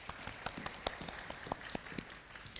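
Audience applause for a child volunteer, a fairly soft, steady patter of many hands with a few sharper individual claps standing out, holding an even level throughout with no voices.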